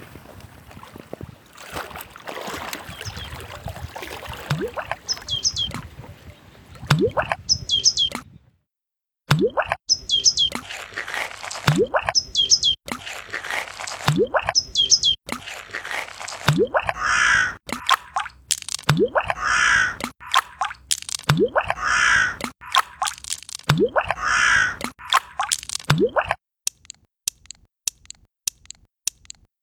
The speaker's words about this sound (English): Ambience of Danube Island. Ice skating. The Danubian wetlands.